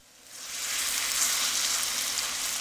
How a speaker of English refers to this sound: scooping batter into a sizzling cast iron skillet. We got potatoes and onions, a little bit of flour and egg and salt and pepper, and they're frying up,